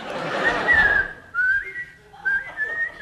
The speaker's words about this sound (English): Whistle, the whistle.